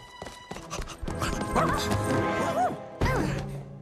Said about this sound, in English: She's knocked over by a golden-furred dog. You scared me.